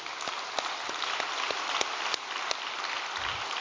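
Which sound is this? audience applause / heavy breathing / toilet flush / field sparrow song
audience applause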